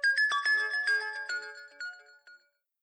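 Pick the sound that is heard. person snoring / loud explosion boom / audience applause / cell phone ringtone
cell phone ringtone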